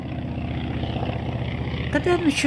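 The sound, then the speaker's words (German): A small, light wooden propeller biplane flies by, its engine a steady, throbbing drone with a rapid regular pulse that holds at a constant loudness throughout. “Solche kleinen Doppeldecker aus Holz sollten im Krieg 3000 Tonnen todbringende Bomben abgeworfen haben?”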